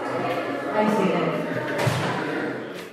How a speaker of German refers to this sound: Sie öffnet die Tür eines Zimmers des öffentlichen Ärztezentrums, schließt sie wieder.